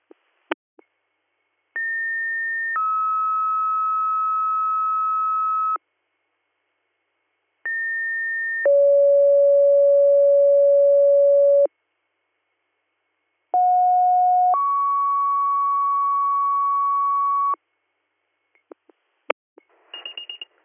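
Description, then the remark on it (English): Three sequential two-tone fire radio dispatch pager alerts, each a brief higher tone sliding into a long, steady lower tone, separated by short silences and framed by radio clicks, with no talking. “Ridgebury EMS, Greater Valley for ALS, Guthrie, disregard your tones.”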